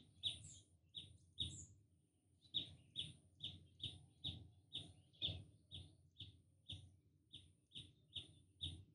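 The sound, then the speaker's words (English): A bird sings a bright, sharp chirp over and over at a steady, quick pace, fairly soft, above a low rumbling background with no one talking. “Do you hear that bird?”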